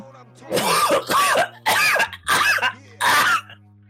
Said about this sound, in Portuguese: Ai, tô até suado de tanto que eu tô tossindo. Desculpa, você que tá ouvindo a pessoa tossir